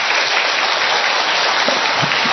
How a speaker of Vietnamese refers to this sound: Vỗ một tràng pháo tay thật to lên thưa anh chị em.